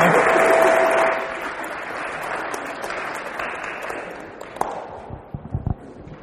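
A crowd applauds with dense, steady clapping that gradually fades, ending in a few scattered individual claps and small bumps.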